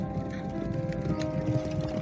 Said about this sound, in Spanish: Al día siguiente, cuando Oso limpiaba el establo, escuchó unos caballos.